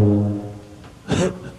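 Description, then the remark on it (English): A low, droning tuba note, played in a hallway, sustains and fades over about half a second, followed moments later by a short, loud, brassy blast. No one speaks. “He's the one with the tuba.”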